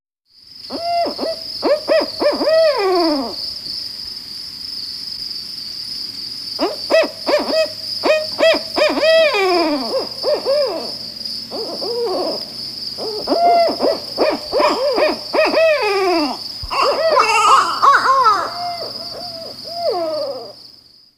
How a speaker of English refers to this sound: Barred owl.